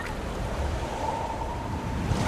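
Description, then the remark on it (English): Rough open water churns and washes steadily in a dense, continuous roar, with a faint low hum in the background and no voices. “swims through the choppy water, pursuing the distant boat.”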